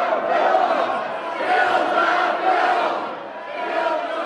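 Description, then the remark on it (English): A large crowd of health care bill supporters and protesters shouts and chants continuously, supporters shouting "health care for all" and protesters chanting "kill the bill", many voices overlapping in a loud, steady roar with rhythmic swells rising and falling every second or so, no single voice standing out. “Supporters shouted, health care for all, while protesters chanted, kill the bill.”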